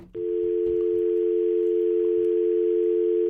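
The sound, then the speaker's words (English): A steady, unbroken telephone dial tone hums loudly and evenly for several seconds after a brief click, heard on a call-in line with nobody there, with no voices over it. “I think that was a dial tone.”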